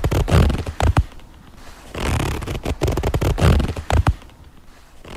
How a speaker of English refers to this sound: It's technically a zipper on a jeans. Play it again. Girl, what jeans are you wearing? That thing is loud.